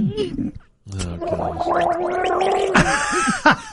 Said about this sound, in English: Nobody gargles coffee. Oh, that was quite a load. No. So unnecessary.